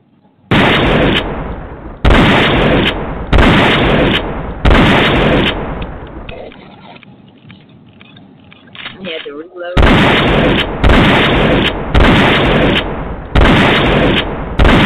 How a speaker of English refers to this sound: Where's the gunshots? He's smoking Loso, yo. Like, give me the shotgun shotgun. Give me the shotgun shot.